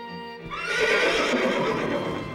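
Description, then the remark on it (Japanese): A horse of a horse-drawn carriage being readied whinnies loudly, a rising, wavering neigh lasting a couple of seconds, with faint hoof clops and carriage rattle underneath. “中佐、馬車の準備整っております。”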